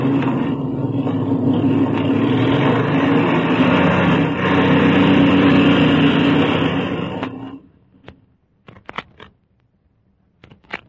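A loud, steady airplane engine drones and roars for about seven seconds as it warms up while the plane taxis out, then cuts off abruptly, leaving near silence broken by a few faint clicks and knocks.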